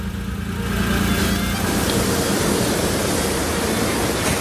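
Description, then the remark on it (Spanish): A car drives along the coast of A Coruña, Spain, at a steady pace, its engine hum and loud, broad road rumble continuous; no one speaks. “Cogemos el coche y seguimos recorriendo esta costa.”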